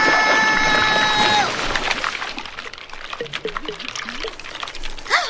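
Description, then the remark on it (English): Thick glue oozes out with a wet, bubbling gurgle, small bubbles bursting and popping in quick irregular bursts, fairly loud, with a voice murmuring over it and a brief tonal sound at the start. “The way the bubbles explode out of that glue is so great.”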